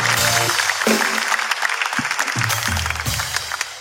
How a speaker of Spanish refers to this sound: Ojalá que lo logres, ojalá que logres tus metas y nosotros te ayudamos con un fuerte aplauso.